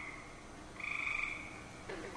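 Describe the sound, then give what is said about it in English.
A gray tree frog's mating call: a loud, rapid pulsing trill held for about a second, set against a steady chorus of other frogs, with no voices. “I have the gray tree frog mating call.”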